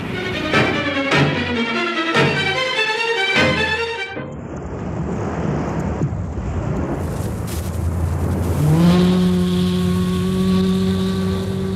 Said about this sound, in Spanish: La lancha atraca en los muelles.